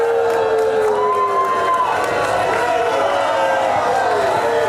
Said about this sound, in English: That was just the first round. Brutally booed.